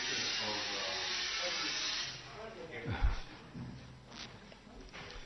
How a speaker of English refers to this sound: What's going on there? Oh, an air conditioner.